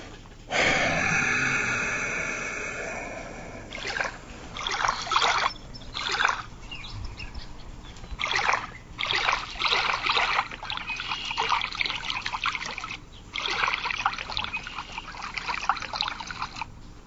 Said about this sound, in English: What am I hearing out there? Is that rain? Okay. It's pissing down rain outside, man.